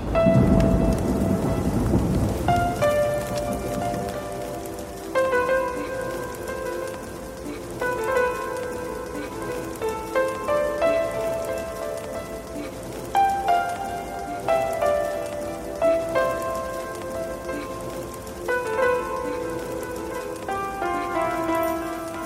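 Steady rain falls throughout, opening with a deep rumble of thunder, while a gentle melodic tune plays over the downpour. No one speaks.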